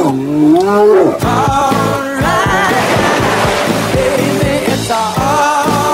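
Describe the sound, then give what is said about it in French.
A loud, deep roar like a bear's rumbles for about a second, then gives way to loud, busy rhythmic music with a steady pulsing beat. “Ne bougez pas, il y a un ours derrière, donc.”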